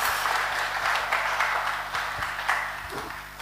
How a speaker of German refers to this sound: Großartig. Ja, Applaus. Passt gut.